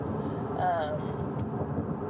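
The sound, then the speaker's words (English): A person vocally imitates a revving car engine, a short rising and falling 'vroom' over a steady low rumble, moderately loud. “Plus, I like having an engine. I like being able to go, like, vroom, vroom, vroom, vroom.”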